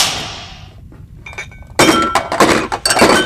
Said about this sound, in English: Do you see? I made the tray say the line. I slammed the tray down three times to the rhythm of ….